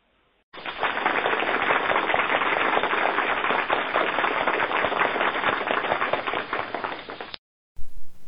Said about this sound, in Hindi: जोरदार तालियों से स्वागत कीजिए।